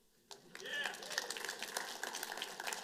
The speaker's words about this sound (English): See, these are moments where you clap.